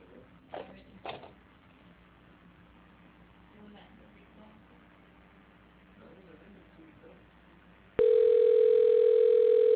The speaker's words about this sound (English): Okay, we got dial tone. We got a ring.